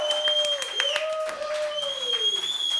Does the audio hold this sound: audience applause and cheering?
yes